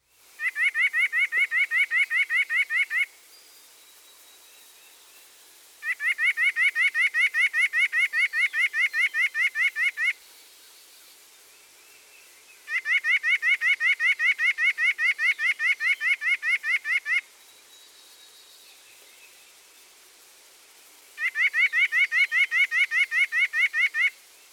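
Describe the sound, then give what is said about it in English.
A bird sings four loud, rapid trills of evenly repeated notes, each lasting a few seconds, separated by short quiet pauses. The song is clear, with no voices. “Next the song.”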